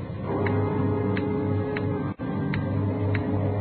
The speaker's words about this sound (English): Loud clock, ain't it?